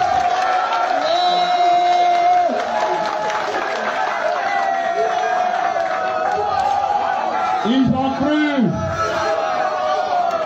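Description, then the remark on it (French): A large crowd cheers and claps for Ibrahim Traoré in a loud, continuous roar for about ten seconds, with shouts, whoops and a few sliding whistle-like calls rising out of the din. “Applaudissez Ibé.”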